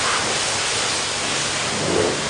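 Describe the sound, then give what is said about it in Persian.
A steady hiss of water spraying onto a surface, continuous and fairly loud for a couple of seconds with no voices. “بذار یه آب روش بگیرم.”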